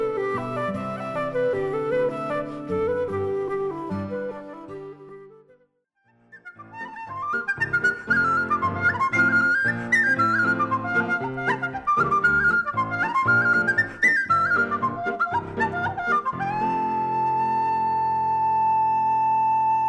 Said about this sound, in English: Lawrence Nugent featured on the flute here on Live and Local on FM 90.9.